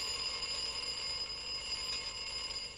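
An alarm clock rings continuously at a steady, loud level, a bright metallic jangle that never pauses across the whole stretch, with no voices present.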